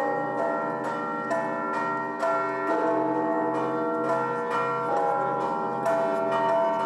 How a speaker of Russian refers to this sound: Купола поднимали под колокольный звон.